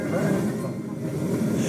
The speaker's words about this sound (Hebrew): עכשיו אתם ברכבת, שומעים?